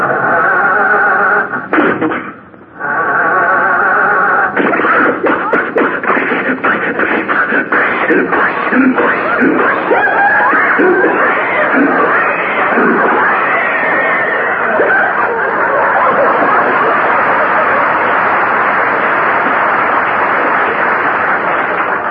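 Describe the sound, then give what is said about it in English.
A voice imitates an old car engine coughing and sputtering as it fails to start, a long, loud run of rattling chugs and wheezes, with what sounds like laughter mixed in. “what's wrong with the motor?”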